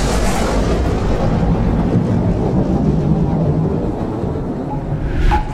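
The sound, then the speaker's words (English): A loud burst of thunder rocks a chamber, rumbling continuously for several seconds, deep and heavy throughout, with a slight crackling swell near the end. No one speaks over it. “And then another burst of thunder rocked the chamber.”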